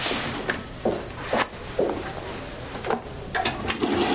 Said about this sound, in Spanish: La señora entra y abre el grifo. El agua es normal.